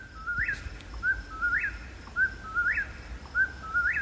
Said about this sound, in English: I'm not great at identifying bird calls, but even I know that one's the whippoorwill. Can you talk about the whippoorwill? Yeah, whippoorwill is a very distinctive call and, of course, associated with more rural wooded parts of Wisconsin.